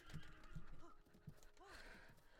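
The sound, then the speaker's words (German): A video-game horse whinnies with a rising, wavering neigh, over steady, rhythmic hoof clops, as the player sneaks slowly to catch it. No one speaks. “Okay, das ist die langsamste Fortbewegungsart und ich ertrage das jetzt einfach nur, um dieses scheiß Pferd zu fangen.”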